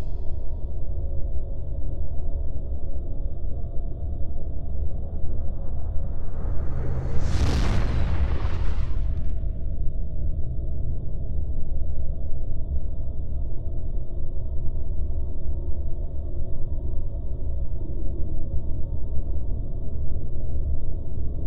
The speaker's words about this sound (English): Listen for the sound of a rocket. A spaceship launching into space.